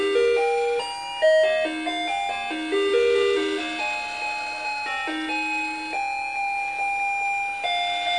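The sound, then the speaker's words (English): An electronic toy that also has a torch plays Jingle Bells in bright, beeping synthesized tones after a button is pressed, steady and fairly loud throughout, with no voices over it. “Jingle bells.”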